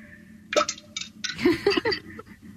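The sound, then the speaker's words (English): A penny drops into toilet water with a bright clink and a few short splashy bursts. Brief vocal gasps or exclamations come in over the end. “as close to the toilet water as possible so you can hear the clink of the coin, okay?”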